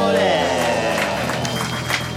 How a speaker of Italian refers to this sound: Signore e signori, un applauso per Anthony Sasso.